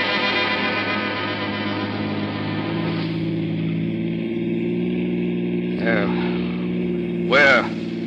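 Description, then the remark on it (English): An old jalopy's engine rumbles steadily at a low pitch while driving out in the country, with a couple of brief louder revving bursts near the end. “We'll use my jalopy.”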